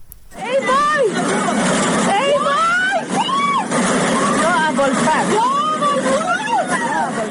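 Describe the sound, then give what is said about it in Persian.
Residents of a house in the Seyyedi neighborhood of Mashhad, Iran, shout and cry out in alarm as they watch from a window while floodwater sweeps away cars; overlapping voices rise and fall continuously over a steady background roar of rushing water. “صدای وحشت ساکنان خانه‌ای در محله سیدی مشهد که از پنجره ماشین‌هایی را که سیل می‌برد تماشا می‌کنند.”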